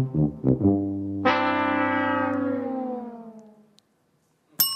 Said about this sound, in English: We'll play a sound effect you'd hear when you failed at a game.